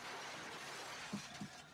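Real glass shatters in a film scene, a sustained, crackling spray of shards, with two dull low thumps partway through as pieces land; fairly quiet overall and no voices.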